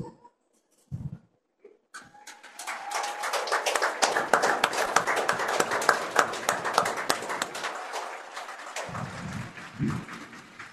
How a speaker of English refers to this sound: Big clap for the veterans here before the national anthem starts. Thank you.